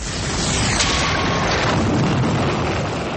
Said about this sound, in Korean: 이탈리아 나폴리만 연안에 있는 베수비오 산에서 화산이 폭발했습니다. 이 화산 폭발로 당시 번영하던 로마 제국의 도시인 폼페이가 화산재 속에 자취를 감추고 맙니다.